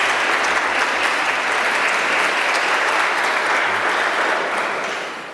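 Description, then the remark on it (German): Steady applause from an audience in the church at Maria Schutz, welcoming church historian Dr. Michael Hesemann: a dense wash of many hands clapping at even loudness for several seconds before tapering off slightly at the end, with no voices heard. “Ihr dürft mal klatschen, obwohl ihr in der Kirche seid.”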